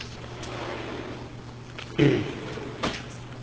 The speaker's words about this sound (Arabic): لا افتح الباب عشان أخواني برا يسمعون. افتحوا مرة نهائي.